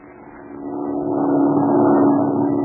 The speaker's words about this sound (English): Hey, listen. There's another plane. That isn't the same one. You can tell by the engine.